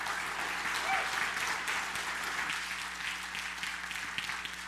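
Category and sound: crowd, audience clapping and cheering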